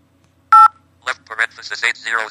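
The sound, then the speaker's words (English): A single loud, short phone keypad tone beeps as a toll-free 800 number is dialed on a phone, followed by a voice speaking quickly. “Which is the 800 phone number for independent living aids.”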